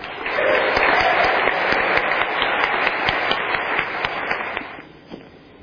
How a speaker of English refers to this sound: I would like to welcome our keynote speaker for tonight. Please give a rousing round of applause